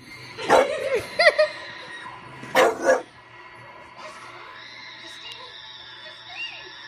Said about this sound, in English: Bulldog watches a horror movie, does something incredible during scary scene.